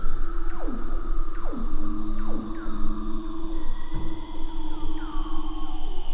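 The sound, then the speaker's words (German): Underwater calls of mating seals: repeated descending whistles and trills sweep down over a steady droning hum, several overlapping voices calling in quick succession, loud amid constant background noise. “Oder auch jede Menge paarungswilliger Robben, die für reichlich Radau unter Wasser sorgen.”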